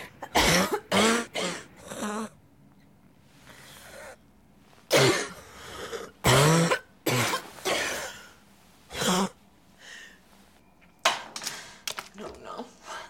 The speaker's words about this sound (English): It's awesome because it starts off with her getting sick. You know, she starts coughing in the morning.